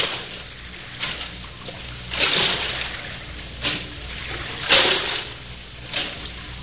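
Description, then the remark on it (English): Oars dip and pull through water as a boatman rows a boat round the Blue Grotto in a slow, regular rhythm, each stroke a soft splash and swish, with a steady watery wash between strokes. “Now, I will row you round the Blue Grotto.”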